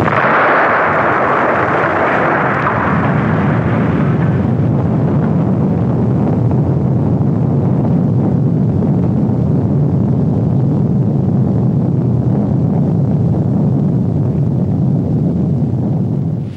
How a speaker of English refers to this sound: Hell of an explosion and...